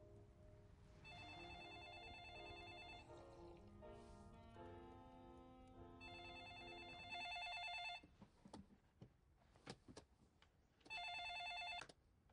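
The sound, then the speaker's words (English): A home telephone rings in repeated bursts, three distinct rings spaced a few seconds apart, loud, with other tones and scattered clicks filling the gaps between them. “I tried reaching you at work, but the secretary there, she said she didn't know where you were, and your cell phone was off, so I figured I'd call you at home.”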